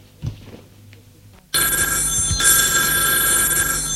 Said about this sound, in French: On lui téléphone constamment aux heures des repas.